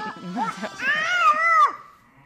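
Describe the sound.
A small boy, carried on the back of a shepherdess standing among a group of ewes with their lambs, imitates a sheep, letting out one drawn-out, wavering high-pitched bleat after a few brief voiced sounds. It's fairly loud, then fades into quiet.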